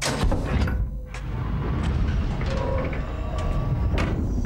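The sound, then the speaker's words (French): A heavy mechanical door fitted with a motion detector rumbles as it slides open, a steady low grinding with a few sharp clicks, fairly loud, with no voices. “Ouvrez la porte, s'il vous plaît.”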